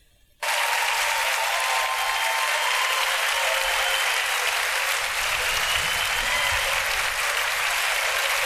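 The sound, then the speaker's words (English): Sustained applause from a large crowd during a speech starts abruptly after a brief quiet moment and holds steady and dense throughout, a continuous wash of many hands clapping at once. “But our speaker clapped.”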